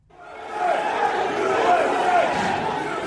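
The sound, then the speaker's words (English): A large crowd of thousands of rioters storming the U.S. Capitol in January 2021 shouts and roars continuously, a dense, loud wall of many voices with scattered yells rising out of the din, sustained for the full few seconds. “Thousands of people stormed the U.S. Capitol in January 2021.”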